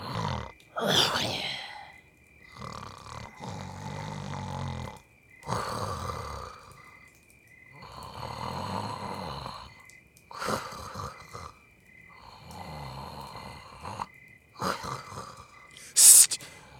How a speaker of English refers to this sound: You were snoring. Yes? I was asleep. It is a very disturbing sound.